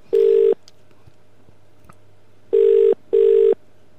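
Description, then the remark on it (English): A phone ringtone heard as a call is placed to a number, three steady electronic tones, one burst, a pause, then two more bursts in quick succession, each about half a second long, with no talking. “I'm getting a ringtone.”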